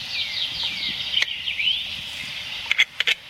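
A capercaillie's cork-pop call, made gutturally at the back of the throat and likened to uncorking a bottle: a few sharp, hollow pops, one early and a quick cluster near the end, set against a steady high, wavering hiss of background birdsong or insects.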